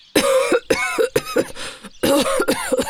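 A grandfather coughs hard and repeatedly as he comes out of a smoke-filled wooden shed, harsh bursts in two rapid clusters separated by a brief pause, with no speech.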